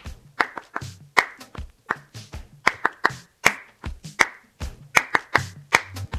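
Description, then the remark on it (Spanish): Rhythmic flamenco palmas for a bulería: sharp, bright hand claps in a syncopated pattern, some accented louder than others, repeating steadily for several seconds with no talking. “¿Cómo se hace palmas?”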